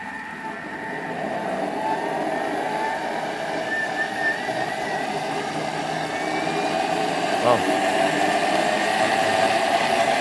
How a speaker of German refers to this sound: Klingt wie ein Düsenjet, ist aber nur eine Küchenmaschine.